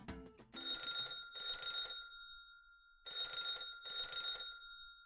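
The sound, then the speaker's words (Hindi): A telephone rings with calls answering a local newspaper ad seeking a pet cat, in two double bursts, each a pair of bright, buzzing trills separated by a short pause, loud with nothing else around it. “वो पत्रिका जब लोगों के हाथों में पड़ी तो फोन की बारिश शुरू हो गई।”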